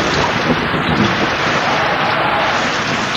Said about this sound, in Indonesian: Tak lama kemudian, hujan pun turun dengan deras. Sesekali diselingi kilatan petir.